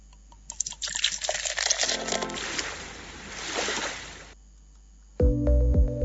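A few sharp clicks as a bottle is opened, then a steady splashing pour of liquid lasting a few seconds, which stops briefly before music begins.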